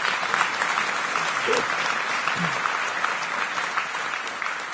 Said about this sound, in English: One device detected, and there's our JTAG pinout. Joy. You can clap.